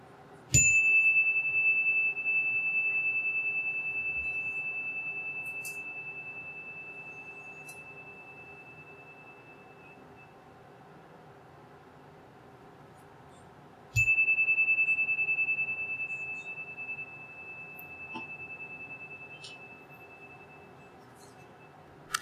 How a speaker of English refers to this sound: So I will do the chime to begin and end, as we traditionally do. So I invite you to make yourself comfortable in your seat as we have a moment of silent reflection.